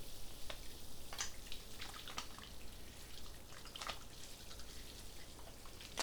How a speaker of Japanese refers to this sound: シャンプーを直接髪の毛につけると良くないから、こうして手の中で泡立てることを意識するの。さっきのボディーソープと一緒で、あわあわさせることが重要なんだ。